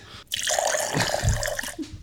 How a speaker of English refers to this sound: So if I were to take this bottle out of my backpack... You don't want to do that, son. Just swish around the water.